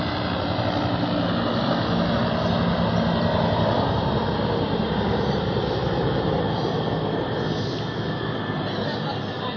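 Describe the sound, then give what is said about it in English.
A helicopter flying overhead, its engine a steady, loud, rumbling roar that fills the whole stretch without fading or pausing. “Trains, helicopters, everything seems to be disturbing.”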